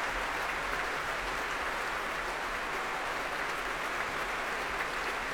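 Sustained applause from a concert audience on their feet in a concert hall after a choral work, as conductor Tadaki Otsaka and Jonathan Lamalu come back onto the stage to take another bow: dense, steady clapping that holds at an even level throughout without easing off, with no voices on top.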